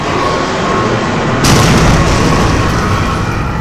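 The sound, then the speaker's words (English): Loud, continuous booming and blasting as starfighters fire laser weapons and blast the city below, a dense roar with a sharp, brighter burst about midway that keeps rumbling to the end. “Starfighters break through the clouds and into sight, firing laser weapons and blasting the city below.”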